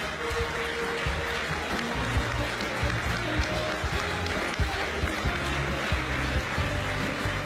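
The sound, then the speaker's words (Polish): Steady applause from a crowd, a dense sustained patter of clapping forming a continuous, moderately loud wash of sound, with faint voices mixed in. “Ogromne brawo.”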